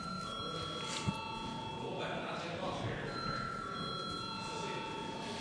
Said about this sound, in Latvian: Lūdzu zvanu.